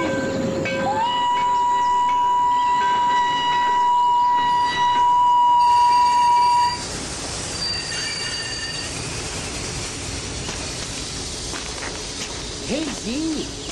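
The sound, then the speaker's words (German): A train rolls in loud, its wheels letting out a long, piercing metallic squeal that cuts off abruptly, leaving a heavy rumbling clatter of railcars as it slows. “Der Zug kommt schon.”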